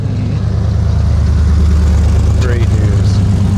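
A loud, deep engine rumble drones steadily through a muffler, a heavy low throb that holds constant for a few seconds, like a big truck idling.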